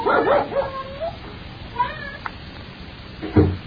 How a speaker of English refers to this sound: go see why Spot is barking.